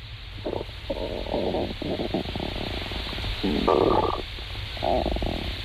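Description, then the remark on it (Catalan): A stomach rumbling and gurgling in a series of low, bubbly surges with brief pauses between them, the loudest burst near the end, no voices present. “És el so d'una panxa.”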